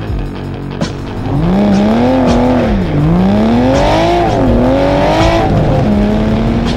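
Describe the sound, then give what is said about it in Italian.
A purple 1965 Ford Mustang Fastback's engine revs hard, its pitch surging and dipping in repeated waves as the car races, loud and continuous with no voices. “Ha anche una bella macchina questo sbruffone, una Ford Mustang Fastback del 65 viola.”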